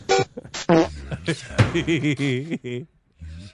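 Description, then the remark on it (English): A quick run of loud, buzzy fart sounds, short blasts in uneven rhythm, mixed with warbling vocal noises and brief gaps of silence near the end. “I keep hearing farts and Indian people.”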